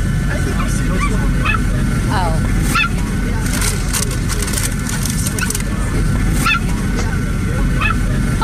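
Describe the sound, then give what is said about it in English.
A small dog yaps in short, sharp bursts, several scattered barks over a few seconds, set against the loud, steady roar of an airplane cabin on a flight from Vegas to Denver. “Yes, and there was this stupid dog yapping.”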